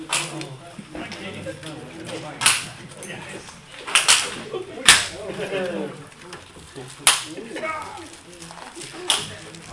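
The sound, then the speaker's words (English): Christmas crackers being pulled, about five sharp, loud snaps popping off at irregular moments over a steady murmur of people talking and laughing. “Okay, everybody pulled their cracker?”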